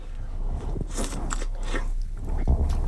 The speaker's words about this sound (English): That's some serious slurping going on now, there.